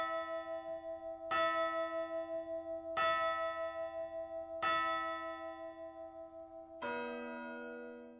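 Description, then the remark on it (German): A large clock bell strikes one o'clock, tolling four slow, resonant strokes, each ringing on and blending into a long humming sustain, with the final stroke deeper and heavier. No voices are heard. “Es läutet 1.”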